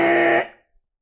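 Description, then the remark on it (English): A single loud, harsh game-show buzzer blares for about half a second, its rasping tone cutting off abruptly and fading into silence, signaling a wrong answer. “Extremely loud, incorrect buzzer.”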